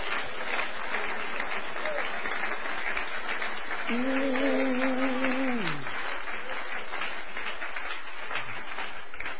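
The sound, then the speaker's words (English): An audience claps their hands in Jesus' name in steady, dense applause that fills the whole stretch, loud and unbroken, with a brief held tone sounding through the middle before fading. “Let's clap our hands in Jesus' name.”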